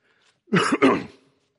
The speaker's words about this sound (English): Pardon the cough here.